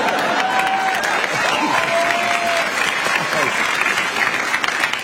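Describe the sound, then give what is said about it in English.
The studio audience of Conan's show applauds the show ending, steadily for about five seconds, a dense, loud wash of clapping with a few high whoops and cheers rising over it. “It always bums me out when the crowd applauds the show ending that quickly.”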